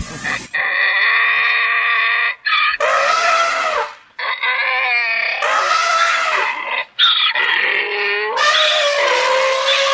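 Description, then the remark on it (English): Loud animal calls trade back and forth without pause: blaring elephant trumpets alternate with harsh, wheezing donkey brays across the whole stretch, broken only by a few brief gaps. “We now present the presidential debate, interpreted and performed by an elephant and a donkey.”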